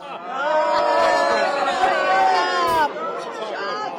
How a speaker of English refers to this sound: That's all the Republicans at the press conference booing down the reporter who started her question with, Mr. Johnson, you helped lead the effort to overturn the 2020 elections. What do you? And that's all she got out before they booed him down.